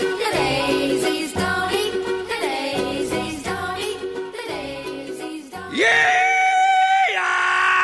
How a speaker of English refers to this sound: Don't let me startle you. I'm just doing the rebel yell here to kind of kick things off.